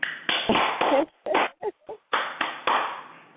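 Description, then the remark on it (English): Someone claps their hands in applause, a brisk, fairly loud run of about ten claps, pausing unevenly in the middle before picking the rhythm back up. No one speaks. “All right, I'm going to clap you up my way.”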